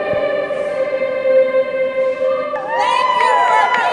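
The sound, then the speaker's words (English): A crowd of students sings together at the Capitol building in Salt Lake City in long, sustained notes, loud and steady, with the melody rising and growing fuller partway through. “And they did what they do best. Sing.”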